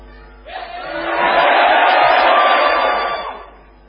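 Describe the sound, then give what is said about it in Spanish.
A group of patients shouts loudly together on request in one sustained, swelling roar that builds over about a second, holds for roughly two seconds, then fades away. “Así que yo les voy a pedir a los pacientes que están aquí que griten fuerte. Que griten ahora.”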